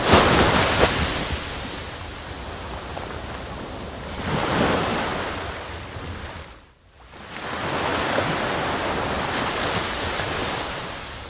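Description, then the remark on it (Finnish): Steady, broad roar of surf washing along a wide shoreline, a continuous hiss with gentle swells in loudness and a brief dip before the wash builds again. No voices. “Jos ne aallot lyö joka paikassa yhtä aikaa, niin silloin se humisee.”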